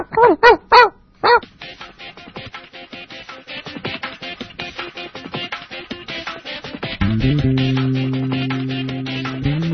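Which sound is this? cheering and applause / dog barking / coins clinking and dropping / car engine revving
dog barking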